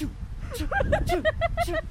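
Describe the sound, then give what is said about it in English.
A voice imitates a sneeze that sounds like a steam engine: a quick run of about six rhythmic, breathy chuffs with hissy bursts between voiced hoots, fairly loud and alone. “No, I have this awful sneezing habit of going...”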